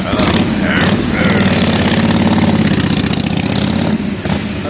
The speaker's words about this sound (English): You got his motorcycle.